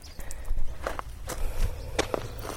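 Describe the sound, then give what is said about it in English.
Footsteps walking uphill on rough ground, away from a murky, dirty water hole shared by people and cattle at Kordiabe: a steady series of crunching steps spaced about half a second apart over a low, rumbling outdoor background, with no talking. “I'm walking up from the hill from a very murky, dirty water source.”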